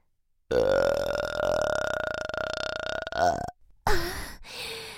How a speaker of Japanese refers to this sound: 遠慮せず私のゲップ味わってくださいな。